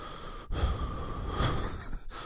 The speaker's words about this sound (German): Und dann höre ich mich aber so atmen in diesen Videos, weil ich so laut atme. Manchmal atme ich, guck mal so, dann gucke ich so ein Video und dann atme ich aber so.